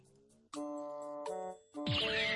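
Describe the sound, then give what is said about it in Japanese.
A sound effect of a New Year's Eve temple bell (joya no kane): three loud bell strikes in quick succession, each ringing with bright sustained overtones; the third is swamped by a harsh noisy crash with a sweeping tone. No talking. “試しに、鐘を落としてみてはいかがですか？”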